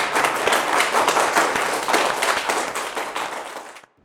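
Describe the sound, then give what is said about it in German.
A crowd in the Residenz applauds and cheers, celebrating a peace resolution, dense clapping at a steady loud level for several seconds before cutting off abruptly. No speech. “Aber es war gerade noch ein großer Jubel hier in der Residenz zu hören.”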